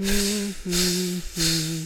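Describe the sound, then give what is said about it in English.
Air hisses out of a punctured inflatable floating fish in three loud bursts, each about half a second long. A steady, low whistling tone runs under the rushing hiss, with short gaps between bursts. “It got a hole, the air came out.”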